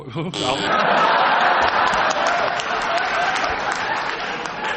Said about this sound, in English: I'm sure you've got some fans in the audience, but why do they clap every time you make a mistake? I think that can only mean affection.